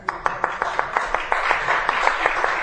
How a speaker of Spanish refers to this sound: Un aplauso para los guionistas de los cómics, por favor.